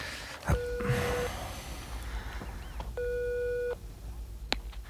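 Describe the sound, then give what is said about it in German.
A mobile phone's ringing tone plays over speakerphone in a student dormitory as a call is placed: two steady buzzing tone bursts with a pause between, set against low background rumble and a few faint clicks and breaths. “zog Bob aufgeregt sein Handy aus der Tasche und wählte die Nummer, die sein Kursleiter ihm gegeben hatte”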